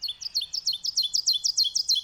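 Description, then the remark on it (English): An ovenbird sings a rapid string of about a dozen bright, repeated two-part notes that grow steadily louder toward the end. The song is clear, with no talking. “They're called oven birds because they build oven-shaped nests, very tiny nests with little entrances on the ground in the leaf litter.”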